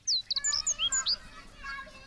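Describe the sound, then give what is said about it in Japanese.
Children playing outdoors on a clear, cloudless morning, their lively voices faint, mixed with several bright bird chirps in the foreground that fade into a soft background murmur. “子供たちの元気な声も聞こえてくる。”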